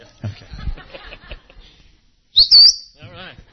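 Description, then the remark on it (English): A man whistles at a church gathering: a loud, shrill whistle rises into a high sustained note, then breaks into a quick warbling trill, after a stretch of soft, murmured laughter-like sounds. “This guy, the whistler.”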